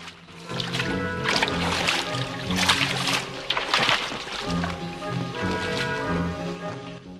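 Steady sloshing and splashing of water as a man wades knee-deep through a dank network of tunnels with heavy strides, repeating every second or so over a sustained, droning musical score. No one speaks.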